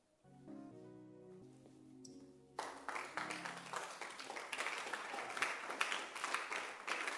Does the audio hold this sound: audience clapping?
yes